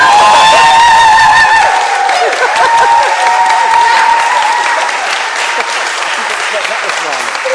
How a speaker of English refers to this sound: If possible, please bring him to the front of your church body and get them to give him a round of applause.